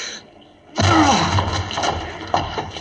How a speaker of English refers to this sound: The door's locked. We can't get in. Break it down, then. Help me, Watson. One, two...